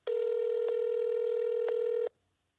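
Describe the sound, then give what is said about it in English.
A loud, steady telephone tone drones for about two seconds with a couple of faint clicks, then cuts off abruptly as a call to the out-of-service number listed for a Mahalia's Chicken restaurant fails to connect. No voices. “But the phone number listed for the business was out of service.”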